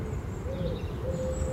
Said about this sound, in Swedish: Ja, det hör ju det i andra fåglar i bakgrunden också. Ja. Det är så mycket ljud. Ja, men det är inte ovanligt att det är både talgoxe, blåmes, bofink, koltrast på en gång. Liksom. Och så ringduvan som sitter där och tutar.